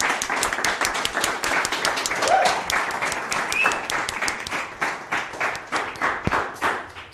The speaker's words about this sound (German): An der Stelle würde ich einmal trotzdem nochmal hier um fetten Applaus für alle Fotografinnen und Fotografen.